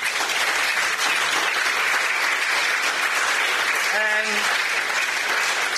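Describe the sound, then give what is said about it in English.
Sustained applause from a large audience for a team's interns fills the whole stretch at a steady, dense clapping texture, with a brief whoop or cheer rising out of it near the end. “can we just give them a round of applause?”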